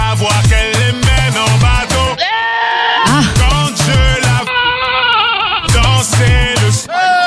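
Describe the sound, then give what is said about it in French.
Goat bleats cut and pitched into a melody, a version of a song made with goat sounds, wavering cries repeating over a pounding, rhythmic bass beat, loud, with no one talking. “Les gars avaient pris des sons de chèvres à la place, ça donnait ça.”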